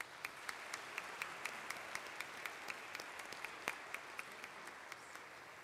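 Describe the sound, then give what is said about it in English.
An audience applauds fathers on Father's Day, a steady, dense wash of many hands clapping with sharper individual claps popping out at an even level throughout, no voices over it. “Happy Father's Day. Let's hear it for them.”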